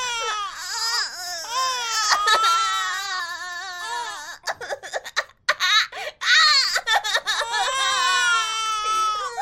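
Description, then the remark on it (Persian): A newborn baby girl cries loudly, long high-pitched wails broken by short gasping pauses midway before the crying swells again, with no one talking. “اون فقط نوزاده.”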